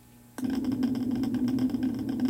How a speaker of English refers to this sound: What do you hear? If you said white noise, you're only half right. The clip you just listened to is actually called brown noise. This new kind of noise has been popping up as an alternative to more familiar white noise.